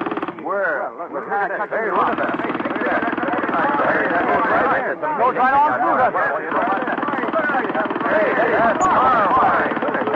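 An air-powered rock drill hammers into a big piece of rock with a loud, continuous rattling roar that holds steady for the full ten seconds, its rapid blows blurring together without a pause.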